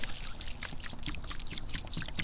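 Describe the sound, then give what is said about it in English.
Water pours steadily into a bird bath, about 3.85 liters (a little less than a gallon), a continuous splashing and gurgling with bright bubbly bursts that lasts a couple of seconds without pause. “All right, time to pour the water into the bird bath.”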